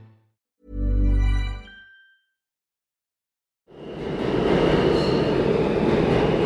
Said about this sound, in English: The sounds, the sights, the smells of New York City's subway.